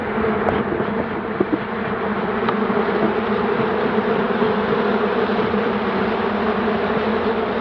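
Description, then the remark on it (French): A dense, steady drone of many bees buzzing loudly at beehives, a continuous swarm hum with no pauses and no voices. “Nous voilà auprès des ruches, nous approchons, nous tout en bavardant. Vous voyez le bruit extrêmement violent qui produit.”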